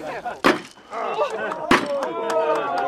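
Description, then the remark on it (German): Two sharp, loud hammer knocks on a wooden foundation beam, a little over a second apart, followed by a few fainter taps, with a murmur of voices in the background; a ceremonial knocking at the Czech Technical Museum on Letná hill, Prague, marking the building of a wooden house designed by Adolf Loos. “Wenn Sie erlauben, werden wir feierlich auf den Grundbalken klopfen.”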